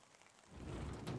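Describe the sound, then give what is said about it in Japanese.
Steady rain patters down in a soft, continuous hiss, growing a little fuller and heavier partway through, with no voices present. “雪かな。いや、雨だな。”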